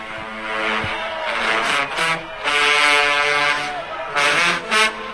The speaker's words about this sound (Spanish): Oiga eso, Trombones, saxofones, trompetas.